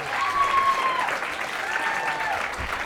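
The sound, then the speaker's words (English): Steady audience applause for the evening's opening performer fills the whole stretch, a dense wash of many hands clapping at even loudness, with a few faint whistles and cheers cutting through. “How about another round of applause for Chris O'Brien for starting us off here tonight?”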